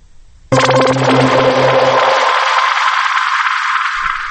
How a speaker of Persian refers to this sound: صدای پارازیت مانندی رو گذاشتیم که نشون بدیم که میخواییم فرکانس رو اعلام کنیم.